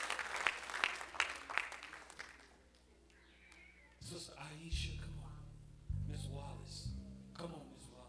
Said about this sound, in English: Come on, give the Lord a hand clap of praise.